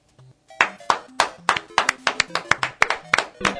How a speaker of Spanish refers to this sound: ¡Aplauso para la abeja analfabeta!